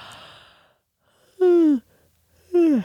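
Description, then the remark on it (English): A person yawns twice, each a short, loud voiced exhale that slides downward in pitch, following a soft breathy intake. “And we've all experienced that chain reaction when somebody in a classroom or somebody at some kind of gathering, or even the person, just one person next to you, lets out a little yawn.”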